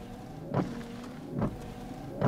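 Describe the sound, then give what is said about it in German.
A sports car windshield wiper sweeps back and forth in a steady rhythm, three swishing strokes under a low motor hum, fairly quiet, with no voices. “Und es gibt auch noch einen Scheibenwischer.”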